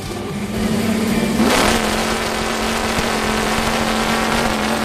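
A big chainsaw with a V8 engine hooked up to it roars, surging in one loud rev before settling into a steady, heavy rumbling drone with a constant low hum.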